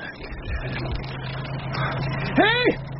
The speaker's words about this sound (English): It was more than an hour later that he heard the lorry.